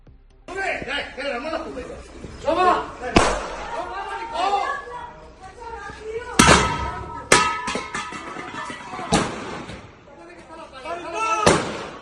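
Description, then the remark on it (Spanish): A butane gas cylinder, thrown by residents from an apartment at people shooting from the street, falls and hits the street, making several sharp, loud metallic bangs spread over a few seconds while people talk and shout excitedly throughout. “con el sonido de esa bombona de butano cayendo”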